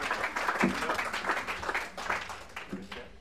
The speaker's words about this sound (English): One more? I know you guys are applauding.